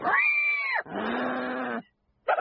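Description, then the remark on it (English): A pig squeals loudly, as if doing an impression of a person: two long, strained, wavering squeals back to back, a brief pause, then a short third squeal, with no talking. “Please, get rid of that pig. Oh, you're going to love him. Look, he does an impression of you.”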